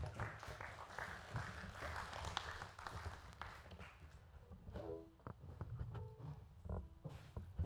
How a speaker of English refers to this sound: Let's clap as we give to the Lord today.